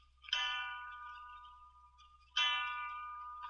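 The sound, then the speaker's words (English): A clock chimes three o'clock with slow, resonant bell strikes, two heard here, each ringing out and fading gradually before the next. The tone is bright and sustained, with no voices. “3 o'clock.”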